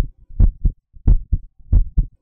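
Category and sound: human body sound, heartbeat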